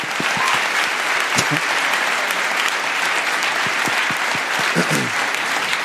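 An audience applauds steadily, a dense, even wash of clapping that holds at full loudness for several seconds, with a few sharper individual claps and faint voices mixed in.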